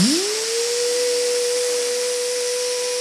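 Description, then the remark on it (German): A voice imitates a laser printer starting up: a quick upward-sliding hum that levels off into a steady, sustained whine over a constant airy hiss, held for about three seconds. “Der ist halt so, du machst ihn an, dann macht er ungefähr so ein Geräusch.”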